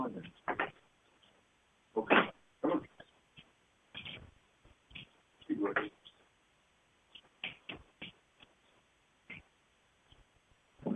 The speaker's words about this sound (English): Hold on, another dog is scratching on the door to come out. Be right back.